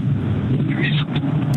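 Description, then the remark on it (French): Steady low engine rumble and road noise inside a moving car as the caller drives to work, heard through a narrow, telephone-like line during a live phone call, continuous and fairly loud with faint voice traces on top. “il y a beaucoup de bruit, tu dois être en voiture.”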